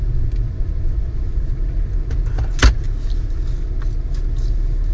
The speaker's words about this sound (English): And so we're in annoying stop and go traffic. Passing the beautiful old homes of Brookside.